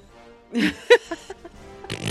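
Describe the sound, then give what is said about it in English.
A person blows a wet, sputtering raspberry mimicking a fart, one main blat followed by a few short, trailing splutters. “Fart noises, fart noises.”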